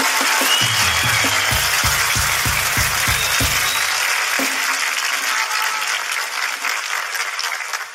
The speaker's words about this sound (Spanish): Primero, un fuerte aplauso para ti porque lo has hecho muy bien, hermano.